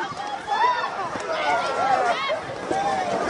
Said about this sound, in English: Ripping things open. Crowds, masses, now they're packed outside of a retail store. They're pressing in.